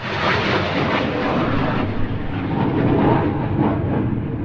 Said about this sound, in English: So we're watching the Harrier display. That's an amazing airplane.